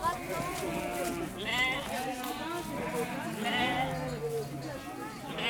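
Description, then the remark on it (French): Wavering, quavering bleats from a castrated male sheep, called a fouca, fill the whole stretch, several calls overlapping one another, fairly loud, with no pause between them. “C'est un mâle qui est castré. Okay. On appelle un fouca.”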